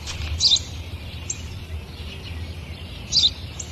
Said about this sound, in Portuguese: Eu já disse várias vezes. Isso é um pardal.